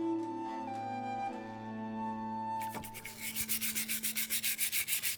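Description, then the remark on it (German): A steady low hum gives way to brisk, rhythmic scrubbing, about a dozen quick rasping brush strokes as small pottery shards are washed in a plastic bowl of water at an archaeological excavation, with no voices. “Er selbst versteht sich als Experte fürs Scherbenwaschen.”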